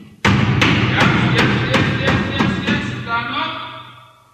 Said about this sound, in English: In the morning, when we were about to get up, the warder would come and each prisoner's door, he would bang against the door to wake you.